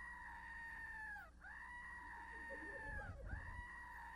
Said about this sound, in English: The house smells like goat. And all it does is scream. It's a screaming goat. It's driving me nuts.